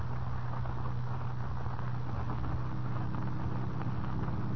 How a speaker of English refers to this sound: Late the following evening, Kent and Lois Lane in another car ascend the dark and winding road up Music Mountain.